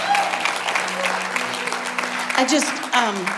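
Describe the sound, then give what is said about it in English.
An audience claps steadily in a dense, continuous burst of applause given as a clap offering to God, with voices calling out over it and a low sustained tone underneath. “Yeah, give God a good clap offering.”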